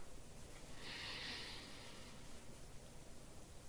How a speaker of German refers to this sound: Okay, atmen wir mal ein.